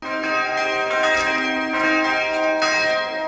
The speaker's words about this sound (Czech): Takhle znějí nové zvony kostela svaté Terezie z Avily v Drastech.